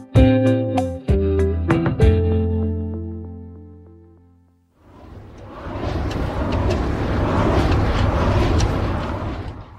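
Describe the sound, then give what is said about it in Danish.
A few punchy musical chords give way to a wind turbine running at full speed: a loud, steady, broad whooshing roar with a low hum, continuing unbroken to the end with no voices. “Det er en vindmølle. Fuld fart.”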